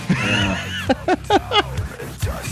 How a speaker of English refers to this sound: Yeah. This is new music, buddy. Yeah, it's basically screaming and burping the lyrics.